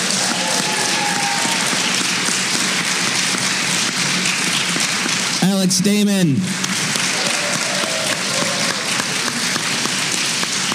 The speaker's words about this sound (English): Thank you all very much for spending time chatting with me about this. Can I have a big round of applause